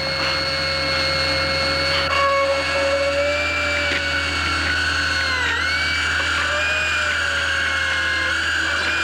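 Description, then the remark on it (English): A high-pitched dental drill, drilling into a healthy tooth, whines steadily throughout, its tone dipping briefly as it bites in, then recovering. The sound is continuous, with a low motor hum underneath and no voices. “you have your eyes clenched shut and you're just hearing the sounds of the drill”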